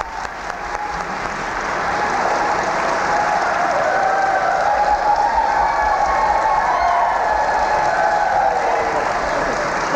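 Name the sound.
audience applause and cheering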